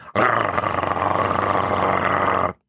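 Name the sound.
wolf growling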